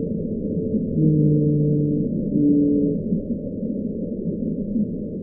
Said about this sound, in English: Whales? Louder than that. The lovelorn call of a lonely blue whale.